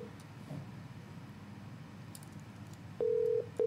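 A quiet, hum-filled stretch gives way to a loud, steady telephone tone near the end, one long beep followed by the start of another, as a listener's call to a Hong Kong radio phone-in program is placed and connects.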